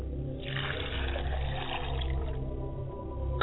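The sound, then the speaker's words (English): Water splashes and pours steadily into a glass for a couple of seconds, moderately loud, over a low steady hum, then trails off into quiet, as a glass of water is set out during a libation ritual; no one speaks. “I set a glass of water for my mother's side of the people.”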